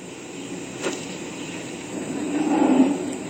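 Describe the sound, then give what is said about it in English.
Many dairy cows at a dairy farm mooing: a single low, drawn-out moo swells in the second half and fades, over a steady outdoor background hiss, with no one talking. “I hear the cows going moo.”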